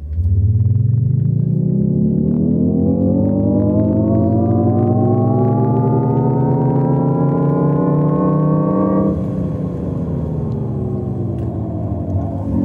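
A Jaguar I-Pace electric car's artificial driving sound: a loud, layered synthetic hum that climbs steadily in pitch for about nine seconds, then dips slightly and holds, over a low rumble, with no talking.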